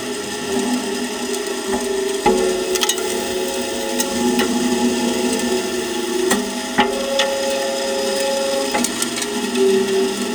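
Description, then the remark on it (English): A steady, dense hiss of ash pattering onto a steel hopper, with a faint metallic hum and scattered sharp clicks and ticks breaking through irregularly. No voices. “It was ash falling onto a steel hopper.”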